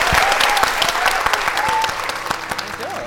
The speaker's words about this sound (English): Please give yourselves a round of applause for this amazing audience. Thank you so much.